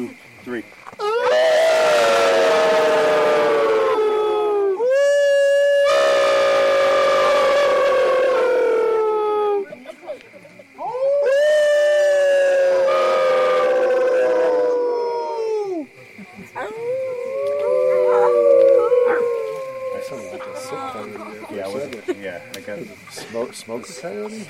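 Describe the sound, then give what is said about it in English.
A crowd of about 450 people howl together in imitation of coyotes on a count of three, three long swelling bursts of overlapping voices, then scattered yips and quieter howls trailing off. “On the count of three, we're going to howl like coyotes. Everyone does their best coyote call.”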